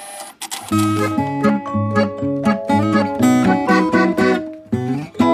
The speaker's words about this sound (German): Der Greifarm des Roboters suchte etwas im Kühlschrankbauch.